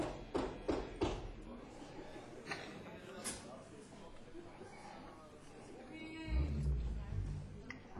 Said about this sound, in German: Wer klopft denn dahinter immer, da hinten immer mit dem Fuß? Percussion Workshop. Teilnehmer.